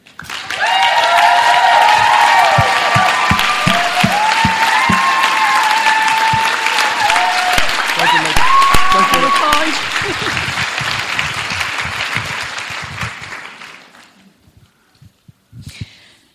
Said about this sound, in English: Okay, the next person please, if you could give a huge round of applause